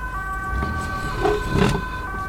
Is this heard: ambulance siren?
yes